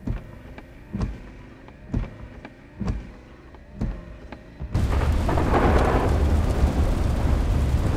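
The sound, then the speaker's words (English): Soft, regular thumps repeat about once a second, then a loud, steady wash of heavy rain suddenly swells in and pours on without a break, full, on a gray, all-day rainy day on State Highway Alternate 45, about 10 miles outside West Point. “It's raining. It's been raining all day.”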